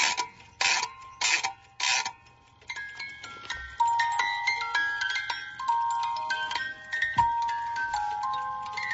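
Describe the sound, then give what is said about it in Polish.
A silver melody alarm clock, which wakes with a melody instead of a bell, is wound with five loud ratcheting bursts, then a bright, tinkling music-box tune begins, with high plucked notes in a steady rhythm and a faint mechanical whir underneath. “Ale ma pan jeszcze tu inne tak, to mam taki jeszcze w srebrze, który jest samym chodzikiem, budzikiem, który jak się nastawi na daną godzinę, to obudzi nie budzikiem, tylko melodią.”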